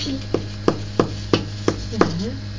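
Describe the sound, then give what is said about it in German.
A woodpecker pecks at tree bark to get worms to eat: six sharp, dry knocks at a steady, unhurried rhythm. A low, constant hum runs underneath, and no one speaks. “Deswegen pickt er da immer an der Rinde.”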